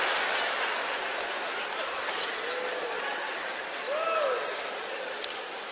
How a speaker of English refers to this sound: Hold up. Keep clapping. All the ugly people clapping right now. All the ugly people clapping. All the pretty people not clapping.